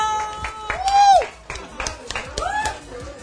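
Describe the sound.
Scattered audience clapping, a handful of sharp, uneven claps rather than full applause, mixed with swooping whistle-like tones and voices.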